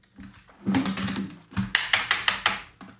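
Quick bursts of keystrokes on a computer keyboard, a fast flurry of clicks followed by a short pause and then several sharper, evenly spaced taps, fairly clear.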